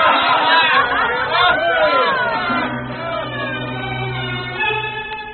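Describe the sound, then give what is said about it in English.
A crowd gathered about Noah's ark, mocking his predictions of a flood, shouts and jeers over one another in a loud, continuous babble, with rising whoops and calls that gradually settle into a steadier roar of chatter. “Crowds gathered about the ark, making sport of Noah's predictions of a flood.”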